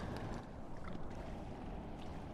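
Steady rain patters onto the water of the Hudson River by its shore, a dense, even hiss of drops with occasional brighter splashes on top, continuous, with no voices.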